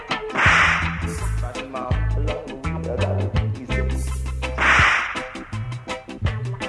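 Sharp whip cracks snap over a driving beat with deep bass notes and steady percussion, two prominent loud cracks landing about four seconds apart among quicker snapping hits.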